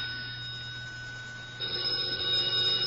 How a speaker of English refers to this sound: It's the telephone. I know, I hear it, but where is it? I'm going to put that extension cord on a deep-sea fishing reel with a strong string. Well, it's right near me somewhere. Oh, here, under the evening paper.